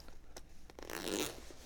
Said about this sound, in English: Can you zip up the tent?